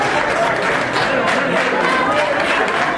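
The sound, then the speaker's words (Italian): Steady, dense applause from a large crowd greeting Sánchez at the FAO headquarters, many hands clapping at once in a continuous wash that holds an even loudness throughout, with faint murmuring voices mixed in. “Ma gli applausi con cui Sánchez è stato accolto nella sede della FAO fanno capire chi è il vero favorito.”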